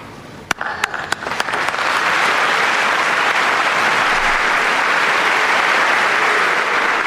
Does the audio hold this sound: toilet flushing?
no